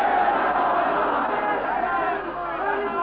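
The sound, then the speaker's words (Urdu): A large crowd at a religious gathering (majlis) shouts the slogan of Ali together, a dense, loud wall of many voices sustained throughout with no pause or single speaker standing out. “آج اس مجلس میں جب ہم علی کا نعرہ لگاتے ہیں تو آپ کے پروپیگنڈے سازش سب باطل ہو جاتے ہیں.”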